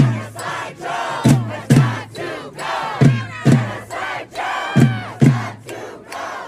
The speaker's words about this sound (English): Shame on you, Joe Biden! Outside, police pushed back against the boisterous crowd, clashing numerous times as they shouted the now familiar refrain towards the president, Genocide Joe.